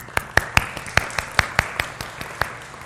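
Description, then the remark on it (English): Scattered, uneven handclaps from a small group applauding fathers on Father's Day: a dozen or so sharp, bright claps over a few seconds, moderately loud, with no talking over them. “So let's give them an applaud.”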